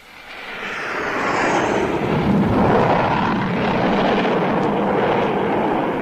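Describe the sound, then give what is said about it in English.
A low-flying aircraft, the second of a group coming in to land, roars in fast, its broad engine noise swelling within a second and holding loud overhead as it passes, filling the air with a dense rushing drone. “That's number two approaching already. Yeah, Lemmy. Well, she's traveling pretty fast, isn't she?”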